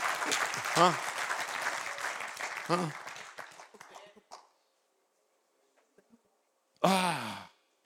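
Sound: audience applauding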